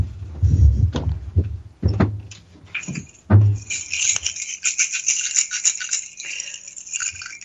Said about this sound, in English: I think this calls for my rain stick. Hold on just a second.